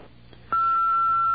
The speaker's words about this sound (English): Hi, there's nobody here right now. Oh. So please leave a message when you hear the beep.